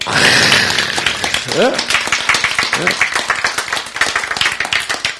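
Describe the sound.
A crowd breaks into rapid, scattered hand clapping that carries on steadily for several seconds, with a few voices calling out over the start of the applause.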